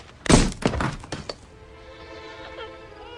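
A heavy thunk of a thrown brick striking window glass, then a loud burst of shattering as the brick bounces off and hits a rental car, breaking its windshield, with a few crunching impacts and faint tinkling debris trailing off. No voices.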